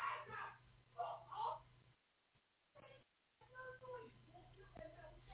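A boy shouts very loudly in muffled bursts from upstairs while playing a game, a few loud calls, a brief pause, then more yelling over a faint steady hum.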